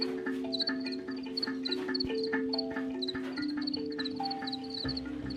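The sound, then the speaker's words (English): A dense chorus of crickets chirping in rapid repeated pulses, layered over steady droning trills. The sound is constant, with no voices. “Everyone has some sort of positive association with the sound of cricket singing.”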